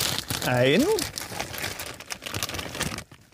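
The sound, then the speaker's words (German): Steady crinkling of a plastic bag being opened while tidying up, continuing for about three seconds with a brief voiced sound near the start. “Und zwar hier, was ist denn in dem Sackerl da drinnen, in der Tüte?”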